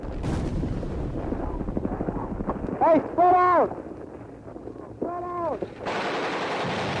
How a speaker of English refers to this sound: Mortars are falling into water. There's a machine gun over there.